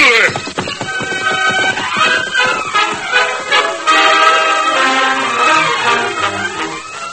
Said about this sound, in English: Beside the great horse Silver, he paused, made sure no one intended to draw a gun, then mounted quickly to be caught and rode away